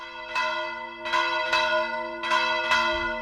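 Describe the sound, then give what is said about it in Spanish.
Church bells swung by hand (volteo) in a full peal from the bell tower of Virga la Mayor, calling to a festival or mass; overlapping rich metallic strikes arriving in an irregular rolling rhythm with long ringing sustain, loud, no voices. “Volteo o bandeo humano de campanas, llamada a la fiesta o a la misa, toques que cada vez se oyen menos en nuestro medio rural.”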